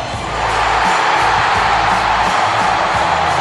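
A huge baseball stadium crowd erupts into a loud, sustained roar of cheering as the Royals strike out the Angels' last batter swinging to win the ALDS; it swells within the first half second and holds steady, a dense wall of voices without pause.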